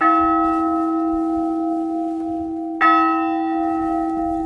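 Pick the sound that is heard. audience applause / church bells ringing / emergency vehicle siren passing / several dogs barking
church bells ringing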